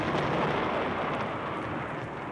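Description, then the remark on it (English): A loud crash of thunder with a flash of lightning, a dense, steady rumble that fills the whole moment with no pause and no voices. “There was a flash of lightning and a crash of thunder.”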